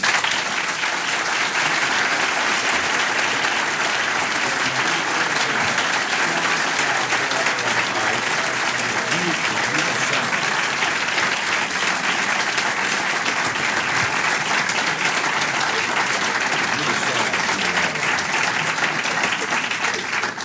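Sustained audience applause for the moderator at the end of a debate session with Dr. Falwell and Mr. Flint, a dense, steady wash of many hands clapping at even loudness for about twenty seconds, with no talk over it.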